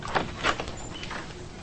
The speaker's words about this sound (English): She unlocks the door and heads inside.